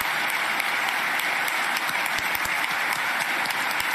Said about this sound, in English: A standing ovation for, I guess, what they call detransitioning.